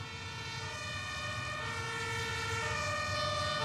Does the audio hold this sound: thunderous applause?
no